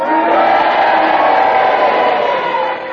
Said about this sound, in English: Now, if you agree with Peter's challenge, then you cheer for him, and if you disagree, then you boo for Clement Freud, and you all do it together now.